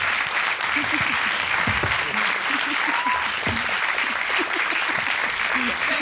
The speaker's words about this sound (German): Ein warmer Applaus nochmal bitte.